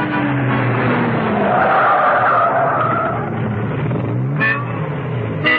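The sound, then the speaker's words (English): A car drives round St. Catharines with a steady engine rumble, then its tires skid and screech as it brakes hard, with a couple of short bumps near the end as it comes to a stop. “Back in the car, Steed continued to drive round St. Catharines. He didn't get very far.”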